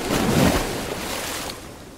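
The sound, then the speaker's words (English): An electric hydrofoil surfboard, driven by a small electric motor, rises on a wing above the waves over open water, a steady rush of spray and wind that swells near the start, then eases to a softer, continuous hiss with no voices. “This is a hydrofoil. A wing allows me to rise above the waves.”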